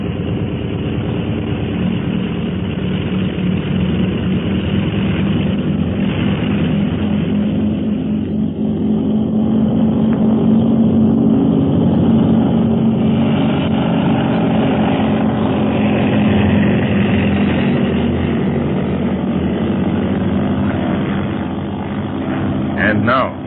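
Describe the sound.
A propeller aircraft engine roars in a steady, throbbing low drone as it takes off, holding loud and even throughout with a faint rumble of voices beneath it.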